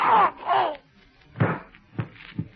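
A drawn-out moaning cry, then a muffled gunshot as a masked man's gun fires during a struggle, followed by two dull thumps of a private detective slumping to the floor, with no one speaking.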